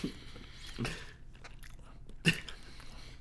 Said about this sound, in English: Let me just eat this edible. I'm not even going to call it edible. I'm going to call it my vitamins.